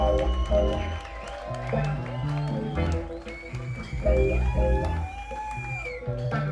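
An audience, asked to break the rhythm of their clapping and make it irregular, claps in scattered, uneven bursts with no steady beat, sharp claps popping over a dense, murmuring bed of voices and tonal sound.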